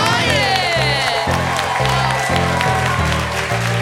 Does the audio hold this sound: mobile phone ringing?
no